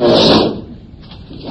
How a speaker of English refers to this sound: This chair is breaking.